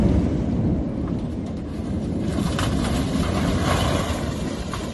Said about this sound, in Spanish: Impacta ver estas escenas y sobre todo escucharlas. Es el crujido del volcán que se mezcla con los destrozos que deja el manto de lava.